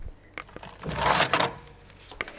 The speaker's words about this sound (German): Das war das Herausziehen von Papier aus einem Papierspender.